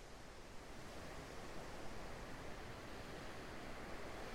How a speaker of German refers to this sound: Und während du weiter dem Rhythmus der Wellen folgst, merkst du, dass auch an deinem Bauch- und Beckenbereich diese Ruhe des Meeres anfängt, sich auszubreiten. Mit jeder Welle ein bisschen mehr.